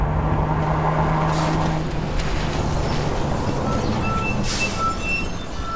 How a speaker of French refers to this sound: Le camion glisse dans la boue et s'arrête à quelques mètres de Bill.